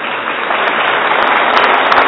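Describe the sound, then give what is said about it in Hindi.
A crowd applauds in a dense, steady wash of many hands clapping at once, holding at an even loudness for about two seconds with no voices over it. “ताली से बजाते क्योंकि ज्यादा नहीं,”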